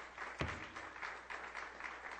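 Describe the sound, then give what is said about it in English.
A church audience applauds for the Lord steadily, a dense wash of many hands clapping at an even, fairly loud level, with one sharp thump near the start and no voices. “Give the Lord one more hand of applause.”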